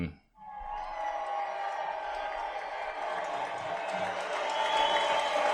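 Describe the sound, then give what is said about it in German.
Sustained applause from a crowd, a dense steady clatter of many hands clapping that swells slightly toward the end, with faint cheering mixed in. “Der Applaus ist gerechtfertigt.”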